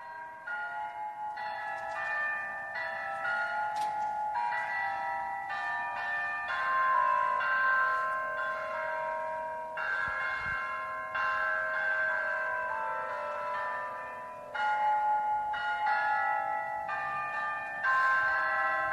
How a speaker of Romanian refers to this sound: la fiecare oră fixă, aceste clopote fiind acordate pe 8 note muzicale, reproduc Hora Unirii